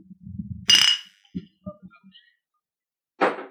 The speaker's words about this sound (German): Wir wollen mir eigentlich mal anstoßen. Komm, wir stoßen mal an. Stoßen mal an.